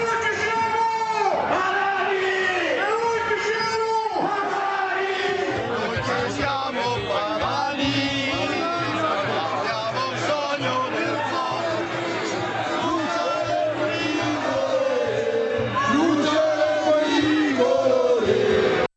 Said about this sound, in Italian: urla leghiste in Svizzera qualche anno fa.